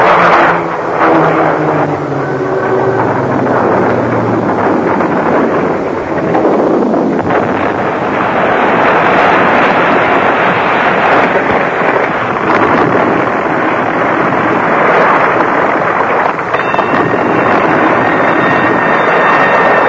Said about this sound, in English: Look! Look at the plane! There's something wrong! She's crashing!